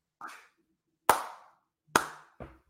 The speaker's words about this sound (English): I'm clapping for anybody not watching the video. I think I can still hear. I don't know if it sounds like a clap or me banging my head against the table.